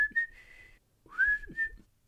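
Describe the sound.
A person whistles a rock song's melody in two short phrases of steady, held notes, separated by a brief pause, with a faint breathy edge and no talking.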